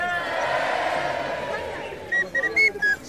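A busy crowd-like roar fades, then a tiny whistle gives several quick, thin, shrill peeps in a choppy rhythm, moderately loud.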